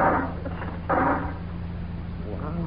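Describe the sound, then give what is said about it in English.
A metal robot, standing like a statue in a destroyed city, topples over after being tripped into, with a short, noisy clattering crash that rings briefly and fades, followed by a moment of low rumble and a voice speaking at the end. “He dropped like a bucket of bolts.”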